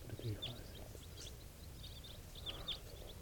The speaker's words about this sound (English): There's some wild birds coming around. This is 431. Wild birds type 4s, a flock of about 10 flying over.